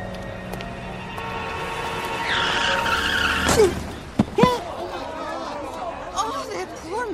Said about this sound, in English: What happened? That car, it hit him. Did you see it? Somebody call an ambulance.